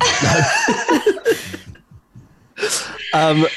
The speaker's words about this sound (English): Can you hear my neighbor cough? Yeah, is that your upstairs neighbor or your next door neighbor? Next door neighbor.